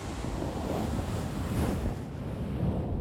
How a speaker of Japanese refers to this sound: ちなみにね、今までガサガサしてた方と反対のタオルの面を使ってやってきますね。